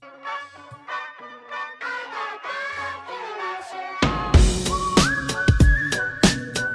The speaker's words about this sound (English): Oh, whistling. Ooh, the whistling's already.